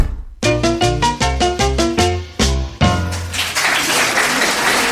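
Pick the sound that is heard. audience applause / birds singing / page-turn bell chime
audience applause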